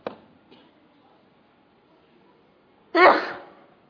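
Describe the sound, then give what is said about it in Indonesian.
A single loud sneeze bursts out near the end after a mostly quiet stretch, preceded by a couple of faint clicks or breaths. “Yahdikumullah yuslih wa'ala.”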